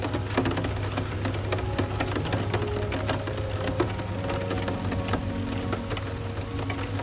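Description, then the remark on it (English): Steady rain falls throughout, with scattered sharp drips and patters over a constant low hum. No one speaks, and the sound stays even and moderately loud from start to finish. “Even though it's still raining out, it looks like Big Bird's emotional weather has cleared up.”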